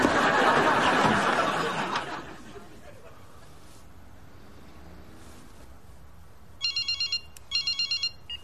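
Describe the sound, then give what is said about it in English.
After a loud rushing noise fades into quiet, an electronic phone ringtone chirps in two quick bursts of bright, rapid trilling pulses, clear near the end. “I put the phone up to my sore ear.”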